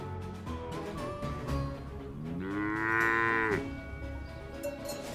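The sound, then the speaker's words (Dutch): Cattle low over and over, several deep moos overlapping, one long, rising call standing out loudly in the middle, with a steady murmur of herd noise underneath and no talking; the cows are being led by a cowboy through the dry wilderness of Wyoming. “Als hij zijn koeien door de droge wildernis van Wyoming leidt,”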